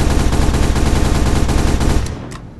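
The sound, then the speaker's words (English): Colt revolver gunfire from the video game GTA 4: a loud, dense run of rapid, booming shots for about two seconds, then the noise dies away and a short metallic click follows. No one speaks. “No, it's definitely GTA 4. Yeah, I hear that. That and the reload is really fast.”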